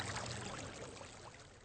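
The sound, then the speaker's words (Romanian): Water runs and splashes steadily from the spout of the Elisenbrunnen, a public drinking fountain from 1827 whose water can be drunk; a continuous pouring sound with no voices. “Das hier ist der Elisenbrunnen aus dem Jahre 1827. Und das Wasser kann man trinken.”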